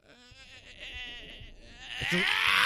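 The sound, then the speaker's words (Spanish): A voice imitates a man screaming in his sleep while dreaming that a monster is chasing him, a wavering, strained cry that rises and grows louder toward the end, with a shrill, sharp peak in the final second. “Pero bueno, no sueña normal, que dice, ay, ay, ay. No, hace...”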